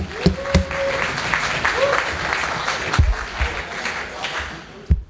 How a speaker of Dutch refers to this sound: Applaus alsjeblieft.